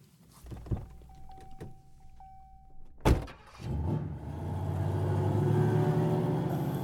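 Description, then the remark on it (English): Inside a car driving to work in light morning traffic: a brief motorized whine and a solid thunk, then a steady engine rumble builds and holds as the car drives along, with no other vehicles standing out. “Traffic's light this morning. I should be there in no time.”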